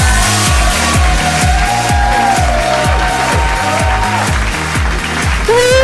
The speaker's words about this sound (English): Oh, clapping as well. Clap. Oh, it keeps going. It's a big hand. It's a standing ovation.